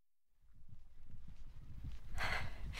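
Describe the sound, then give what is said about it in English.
Rapid, rhythmic hoofbeats of horses ridden by sword-carrying knights thud along at a gallop, growing louder and closer as they ride towards the listener, with a burst of rushing noise building toward the end. “Look at those knights. They're riding horses. They're fast.”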